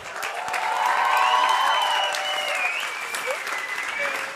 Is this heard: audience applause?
yes